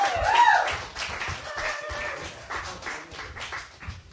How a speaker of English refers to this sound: I want you guys to give a warm round of applause. Coming to stage right now, the producer of our podcast, It Could Be Better,